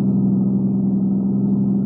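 A car engine hums with a steady low rumble as the vehicle pulls up and stops at a dead-end road by a cave entrance, holding an even, moderately loud level throughout with no voices.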